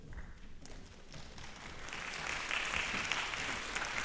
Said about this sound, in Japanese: 拍手をありがとうございます。